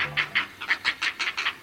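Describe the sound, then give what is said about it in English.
Great blue heron nestlings at a great blue heron colony give a rapid, steady series of harsh, raspy clacking calls, about nine pulses in under two seconds, fairly loud with no voices. “Hear those chicks calling? They're nestlings at a great blue heron colony.”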